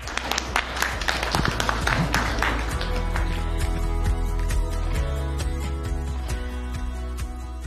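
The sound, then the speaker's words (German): Applause from a small group at a beer tasting in the deep cellar of Rothaus: a dense patter of claps that thins out and fades over several seconds, over a steady low hum. “Applaus!”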